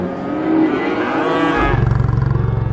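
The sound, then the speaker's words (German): Several nervous cows low loudly, long drawn-out moos overlapping, followed by a steady low rumbling pulse as the calls trail off. “Die stolze Gehörnte hat ihre Artgenossinnen angesteckt. Nervosität breitet sich aus.”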